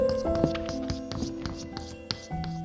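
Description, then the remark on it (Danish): Chalk taps and scratches across a blackboard as a professor stands at the board writing, in short, irregular strokes, with faint squeaky tones in between. It sounds fairly quiet, and no one is talking. “Der er ikke en lyd på nær fra professoren, der står ved tavlen og skriver.”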